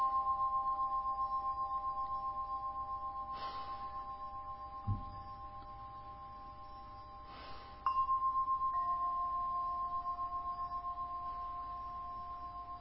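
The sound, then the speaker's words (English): Tibetan bells ring with long, shimmering mid-pitched tones that slowly fade, then a fresh strike brings a new bell of slightly different pitch that swells and decays again. No voices. “Notice in that way the sensations are just like the Tibetan bells.”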